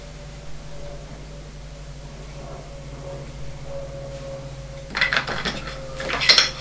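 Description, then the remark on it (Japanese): Ceramic plates and dishes clatter and clink as they are shuffled around while someone searches for a plate, several sharp bursts near the end after a quiet stretch with a steady background hum. “お皿があるかな。”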